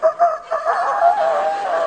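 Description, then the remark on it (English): A rooster crows loudly, opening with two short clipped notes before stretching into a long, wavering, drawn-out call that holds steady to the end. No one speaks. “I always want a rooster crow.”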